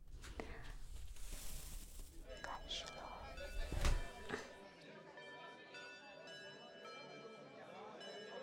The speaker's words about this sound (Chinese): 要不要上课了？没有听见上课铃声响了吗？为什么还在吵闹？不知道上课了吗？